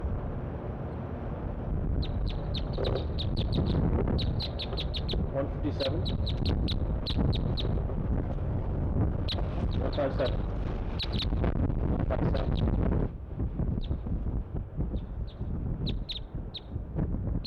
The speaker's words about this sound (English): All the birds are chittering, all three.